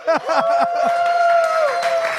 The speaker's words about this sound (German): Hörst du, wie die ausrasten? Hört ihr das an? Der Applaus. Der Wahnsinn.